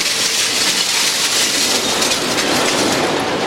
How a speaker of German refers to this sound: Ein Lastwagen fährt gerade in die Halle und leert seine Ladung aus. Relativ schwer, sauber, so ist das Material gut.